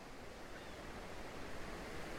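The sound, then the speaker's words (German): Soft, steady wash of ocean waves on the shore, a continuous hiss of surf with no distinct breaks, fairly quiet, with no voices. “Diese Ruhe des Meeres, die sich einfach übertragen kann auf dich.”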